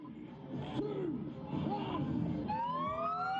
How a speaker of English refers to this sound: Sirens ring out as the first cars cross the border from New South Wales into Victoria, Australia's two most populous states. They're the first to make the journey since July, when the border was closed due to the coronavirus pandemic.